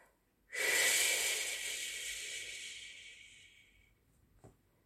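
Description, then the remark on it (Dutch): A single long, voiceless exhale pushed out through the mouth as a breathy "hhh" sound, the Qigong wood sound made with the breath rather than the vocal cords, loud at first, then slowly fading over several seconds, with no voice or talking. “Het is een klank die je maakt met je ademhaling en niet met je stembanden.”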